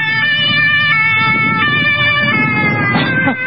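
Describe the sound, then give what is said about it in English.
A police siren blares loudly and steadily for a few seconds, its bright, harmonic tone holding high over a low rumble of traffic and engine noise, with no talking. “The police apologized to me for disrupting my chili dinner.”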